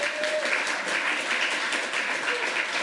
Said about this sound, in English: One more round of applause for Alex. That was a really awesome demo.